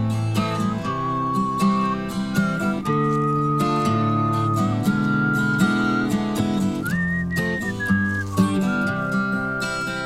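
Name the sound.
person whistling a tune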